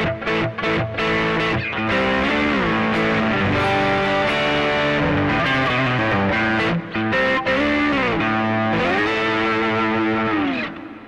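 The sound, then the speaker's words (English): An electric guitar on a mellow rock distortion setting, as broadcast over Skype, plays sustained chords and bending single-note lines with a smooth, mellow distortion, thick and steady in volume throughout, with no voices. “Of the mellow rock distortion setting.”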